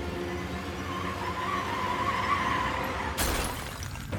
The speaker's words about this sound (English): Schillenberg spotted the Buick in the distance as it approached the cafe. The car swiftly turned off to the side of the cafe and came to a stop.